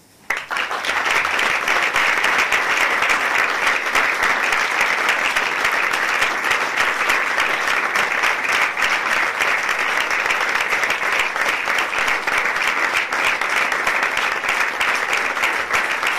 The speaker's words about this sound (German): Ja. Ein schöner Applaus. Tut immer gut, oder? Ja, tut immer gut. Ist mega schön, dass so viele da sind.